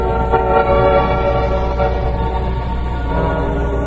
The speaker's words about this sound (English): Tonight's file opens aboard a freight train that's slowly climbing the mountain grade.